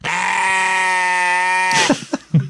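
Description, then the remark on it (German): A single long, loud sheep bleat, used as a censor bleep over a spoken word, holds steady for nearly two seconds, rich and nasal, then cuts off abruptly into a few brief bursts of someone talking. “Du kannst es ja sagen und dann piepsen wir es weg. Mit so einem, mit einem Man von einem Schaf.”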